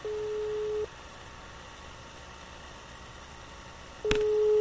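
A steady telephone ringback tone sounds, stops for about three seconds, then returns after a brief click, with no one answering and no voices in between.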